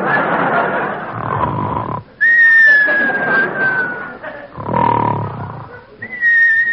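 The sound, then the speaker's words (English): A sleeping doctor's loud, rasping snore inhales, then breaks into a long, steady whistle on the exhale, and the snore-and-whistle cycle repeats, loud. “Now come the whistles.”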